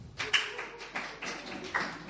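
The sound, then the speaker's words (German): Brief, scattered applause from a few people, a run of soft, sharp claps with uneven rhythm over about two seconds, with no voices. “Ein Applaus für Wiebke.”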